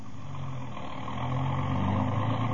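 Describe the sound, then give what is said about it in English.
A car engine idles with a steady, low rumbling hum, growing slightly louder toward the end. It is continuous, with no voices. “Then we left and got into the car.”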